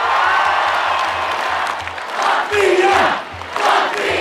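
A large crowd of about 10,000 people cheers loudly and continuously at the Freedom Monument in Riga. They are welcoming the Latvian hockey team, which won bronze at the world championship, wearing team shirts and holding flags and flowers. A dense roar of voices with swelling shouts and whoops; a low rhythmic thumping pulses underneath.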